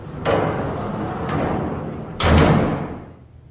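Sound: door being closed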